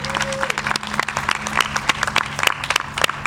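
A crowd applauds a project's leader steadily, many hands clapping in dense, irregular bursts that hold at a fairly loud level throughout, with a faint low hum underneath.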